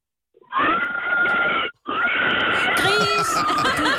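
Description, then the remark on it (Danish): A pig squeals loudly, one shrill, sustained cry that breaks off for a split second, then carries on harsh and strained to the end. “Gris! Nej, du må ikke tage den til slagten.”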